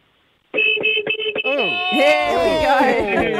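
A loud horn-like honk blares in several quick bursts, then slides into a wavering, sung-sounding tone that rises and falls, on the 101.9 The Fox radio show.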